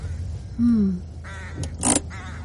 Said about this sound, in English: Evil-looking birds. Probably seen a dead sheep.